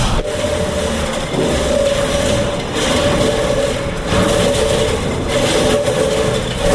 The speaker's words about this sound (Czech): A takhle se rozhoupává zvon.